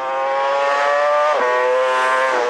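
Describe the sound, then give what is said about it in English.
A racing motorcycle engine at a TT race screams at high revs, its pitch climbing steadily, dipping briefly at a gear change, then rising again, as the rider brakes, shifts and twists the throttle. Loud and continuous, with no voices. “Riders are constantly braking, shifting, and twisting the throttle thousands of times every lap.”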